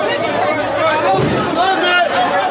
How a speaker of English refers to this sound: This was Porto Alegre's indoor public market last Friday. The video shared over Twitter shows people squeezing past each other and standing in long lines waiting to be attended.